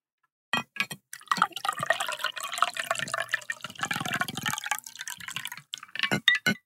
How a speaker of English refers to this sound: But today, for myself, I'm going to go ahead and pour my drink. So yes, we're going to do the ASMR bit. So if you don't like this, skip 5 seconds ahead. Here we go. Oh, dripping.